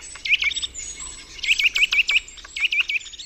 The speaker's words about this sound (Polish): a to dzięcioł, a to, żeby było śmiesznie, dzięcioł jeszcze się odzywa duży.